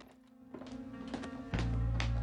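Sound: door being locked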